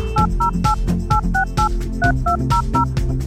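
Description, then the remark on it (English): A rapid sequence of about ten telephone touch-tone dialing beeps, each a short, bright two-note tone at a steady rhythm, played over a loud, continuous low musical backing. “Did you hear that? Those touchstones remind me to actually make good on my promise that I made to you earlier on in this episode.”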